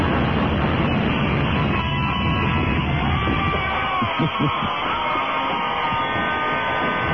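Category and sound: sound effect, train wreck sound effect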